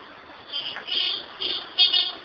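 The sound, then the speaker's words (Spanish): Several car horns honk in overlapping bursts over a steady hum of street traffic at a busy intersection, heard from a fifth-floor balcony above it, with the last blasts a bit louder. “Ahora estoy aquí en el balcón, quinto piso, y abajo está el macaneo de carros.”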